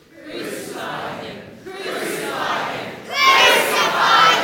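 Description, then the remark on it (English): An audience shouts together on a count of three in three sustained bursts, each one louder than the last, building from a moderate roar to a loud, full-throated yell. “So you start quieter, get louder, and then even louder.”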